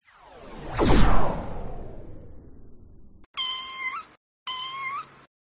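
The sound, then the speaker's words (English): A cat that has climbed up a tree and cannot get down meows twice, two drawn-out, fairly loud cries in quick succession, following a long sweeping whoosh that fades out. No one speaks. “My cat climbed up the tree and now he can't go down.”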